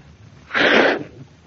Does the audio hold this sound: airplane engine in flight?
no